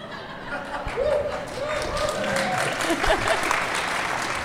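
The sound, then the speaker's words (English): A crowd applauds steadily for several seconds, a dense wash of clapping mixed with a few scattered laughs and murmuring voices in the room. “I'm just sad it's your delivery that's getting applauded and not me.”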